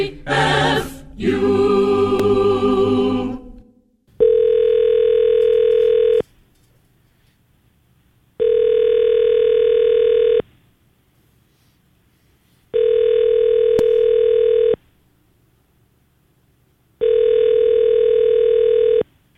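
Telephone dialing while calling Crazy Horse Downtown: a few seconds of rough, noisy dialing bursts, then four identical steady electronic tones, each about two seconds long, separated by even pauses, with no talking.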